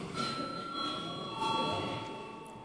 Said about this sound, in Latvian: Paldies, lūdzu zvanu.